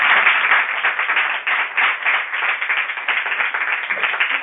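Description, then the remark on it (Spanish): Steady applause from a group, a dense patter of many hands clapping at a fairly even loudness throughout, with no voices standing out. “¿Me va a aplaudir?”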